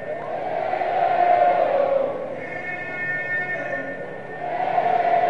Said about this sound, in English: Good crowd on hand at the Wolf tonight.